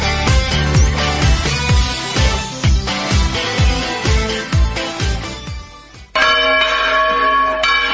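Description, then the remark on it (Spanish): Church bells, rung by a priest when it is not time for mass, peal loudly and continuously, overlapping strikes ringing in a rapid, uneven rhythm, then one sustained clanging tone takes over near the end. No voices are heard. “¿Qué hace tocando de esa manera las campanas, si ni siquiera es hora de misa?”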